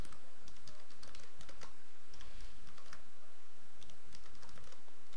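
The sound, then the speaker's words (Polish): Steady typing on a computer keyboard, entering the name of a new application: a quick irregular stream of crisp key clicks lasting several seconds, with no voices over it. “Wprowadzamy jej nazwę.”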